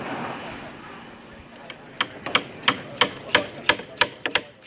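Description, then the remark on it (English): A fairly loud run of about a dozen sharp, quick hammer taps as a moisture probe is driven into timber to check its moisture content. The taps start after a quiet opening of faint background noise. “Basically hammering in a probe into the timber.”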